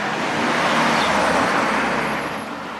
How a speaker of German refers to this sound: halt, bleib stehen, ein Auto kommt.